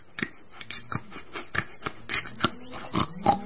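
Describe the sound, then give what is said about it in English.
Snorkel the pig oinks and snorts in a quick, uneven series of short grunts, about nine in all, moderately loud, with no talking. “Then he came across Snorkel, the pig, and Dozy, the black and white cow.”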